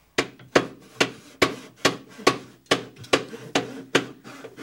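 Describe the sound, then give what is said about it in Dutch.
A hammer pounds wood in a steady rhythm while a huge ship is being built where there is no water, about eleven sharp, loud knocks spaced evenly apart, each with a short ringing decay. No one speaks. “Je lijkt wel gek om hier een schip te bouwen.”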